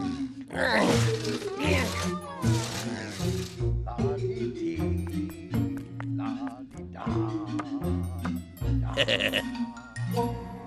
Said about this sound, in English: La-dee-da. Stumble Snore snoring.